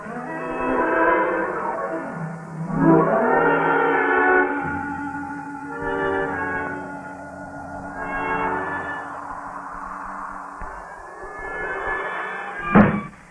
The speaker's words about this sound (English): My good woman, must you slam doors?